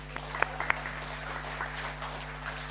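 Applause from an audience, a steady patter of many clapping hands with a few sharper claps standing out, fairly soft throughout and with no voices over it.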